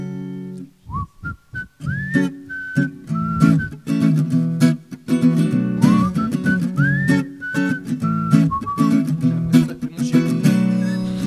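A person whistles a clear melody of sustained, sliding notes, repeating the same phrase twice over steady instrumental backing music with a rhythmic pulse.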